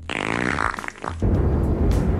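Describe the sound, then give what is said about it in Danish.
A raspy, buzzing fart-like noise gives way to a loud, steady rumble of storm wind, a storm sound effect added in the background of a segment called Shitstorms-nyt, filling the second half without any talking. “Jeg har lige tilføjet sådan lidt lyden af storm bagved.”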